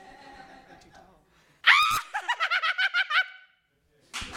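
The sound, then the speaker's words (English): A woman lets out a sudden shrill, wavering scream that breaks into a rapid, rhythmic cackle of about eight sharp bursts, loud, after faint background chatter. “So we've got creepy crazed scream, however you want to write that, my dear.”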